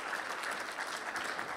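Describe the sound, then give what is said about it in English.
A crowd claps steadily in dense, even applause with no pauses, filling the whole moment. “So can we give everyone another round of applause and a big thank you?”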